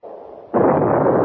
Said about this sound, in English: all we have to do is wait for the start and flag in the cannon. You see ashore over there, the flag's lowering. Engine room, stand by. Standing by. When the flag gets to the bottom of the pool, to fire the cannon, and we'll be on our way.